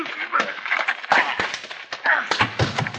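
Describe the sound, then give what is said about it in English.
A brawl in which a man is knocked down: several heavy punches land as dull thuds amid scuffling and shuffling, with grunting voices mixed in, the blows coming irregularly over a few seconds. “Knock my partner down, will you?”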